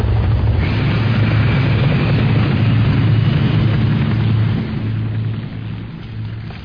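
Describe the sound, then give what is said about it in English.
Three helicopters from Section 9 approach at high speed with a loud, steady low drone of rotors and engines, the rumble easing slightly toward the end. No voices are heard. “Three helicopters approaching at high speed.”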